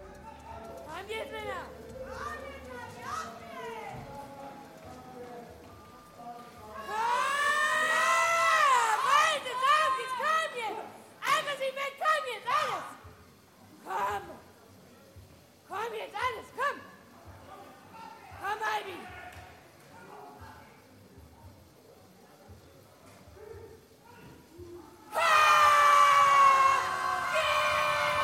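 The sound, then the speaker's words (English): Athletes cheer on their countrymen and women at the skeleton sled starting gate at Königssee: several voices shout and yell in loud, excited bursts, rising to noisy peaks partway through and again at the end, with short pauses between calls. “Let's head back out to Königssee and listen in as fellow athletes cheer on their countrymen and women at the starting gate in Skeleton.”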